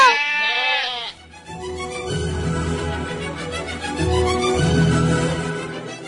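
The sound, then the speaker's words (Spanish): A loud, wavering sheep bleat rings out, then gives way to a busy, overlapping jumble of lower bleats and rustling from a flock that continues to the end. “Al día siguiente, llegó de verdad el lobo de la colina para devorar unas cuantas ovejas gordas.”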